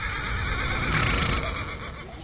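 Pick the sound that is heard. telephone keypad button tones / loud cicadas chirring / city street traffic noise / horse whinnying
horse whinnying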